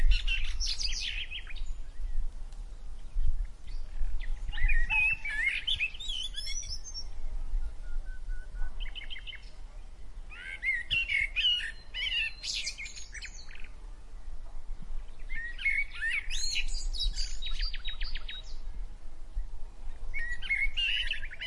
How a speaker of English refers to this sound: The sound of chattering birds and rustling leaves surrounded them as they ventured deeper into the forest.